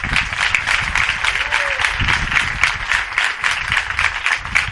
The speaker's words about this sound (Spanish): Para ellos también un aplauso.